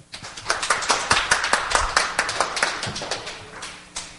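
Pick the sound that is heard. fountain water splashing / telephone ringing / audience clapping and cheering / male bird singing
audience clapping and cheering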